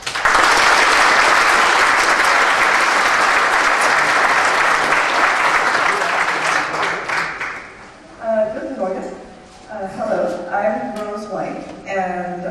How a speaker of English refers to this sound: Please give her a warm applause.